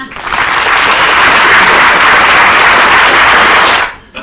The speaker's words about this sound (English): You may applaud now.